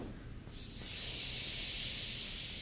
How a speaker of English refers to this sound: We do breathing. Breathe in with it.